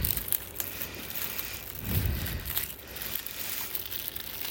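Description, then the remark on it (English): Crinkling and rustling of plastic wrap being pulled off a new waterproof accessory-kit case, a continuous crackly texture with a brief louder crunch midway, no talking. “I'm going to get it out of the wrap.”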